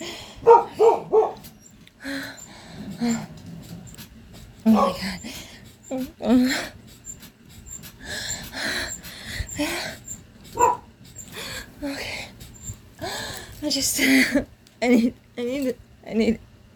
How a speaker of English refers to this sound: He's gonna bark. He's probably hearing the bed.